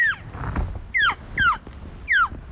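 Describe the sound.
A hunter's elk call sounds four times, each a short, high, squealing note that slides downward, spaced about a second apart over a low rumbling background with no talking.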